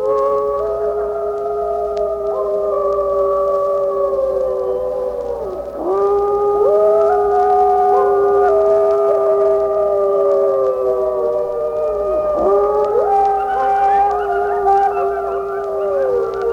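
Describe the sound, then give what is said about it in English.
A pack of wolves howls in chorus, several long, wavering voices overlapping and sliding up and down in pitch, sustained and fairly loud throughout with no talking. “One after another wolf joins in, and the chorus swells, then dwindles, often to some short barks.”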